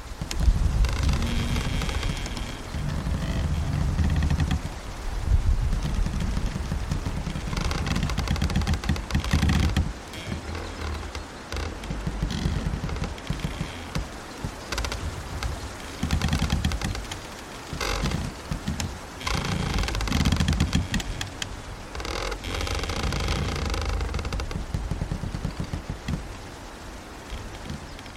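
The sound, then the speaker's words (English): Trees in the Cairngorms creak and groan in low, drawn-out tones over a steady rush of gusting wind, the noise swelling and easing across half a minute with no voices; a field recording by Jez Riley French. “And he has this brilliant recording of trees creaking in the wind.”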